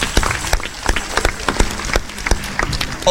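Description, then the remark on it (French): An audience applauds a guest at an evening show, a dense patter of many hands clapping at a fairly loud, even level for the full few seconds, with no voices over it. “On peut l'applaudir très fort aussi.”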